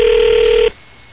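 A single steady, mid-pitched ring tone of an outgoing phone call placed during a 106.7 WJFK radio show sounds loudly for under a second, then cuts off into quiet line hiss. No one speaks.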